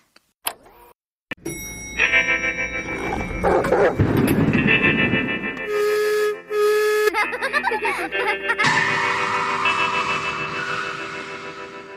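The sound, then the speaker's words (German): A short, loud homemade intro jingle, an earlier stripped-down version of an opening song, mixing bright sustained synth tones with barking and car-like sound effects, starting with a few sharp clicks and running continuously, with no speech. “Hören wir doch mal, du hattest ja damals schon ein Jingle gebastelt.”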